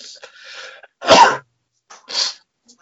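sneeze

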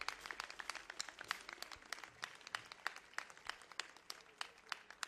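applause

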